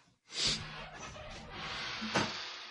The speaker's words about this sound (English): Man, could this chair squeak anymore? Could this chair squeak anymore?